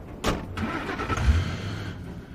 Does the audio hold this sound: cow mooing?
no